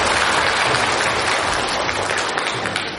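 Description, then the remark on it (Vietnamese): Sustained applause from a large audience, dense and steady clapping filling the whole stretch before tapering slightly at the end, with no voices rising above it. “Cho một tràng pháo tay thiệt lớn thiệt dài.”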